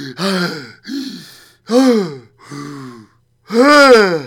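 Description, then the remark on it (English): A person at an open window gasps loudly for fresh air five times in a row, each breath strained and partly voiced, with short pauses between and no speech. “Open one of the windows and grope and gasp the fresh air.”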